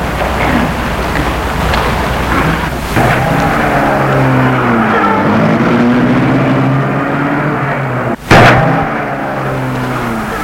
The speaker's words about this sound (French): Puis, ils entrent dans la voiture. Et mettent la voiture en route.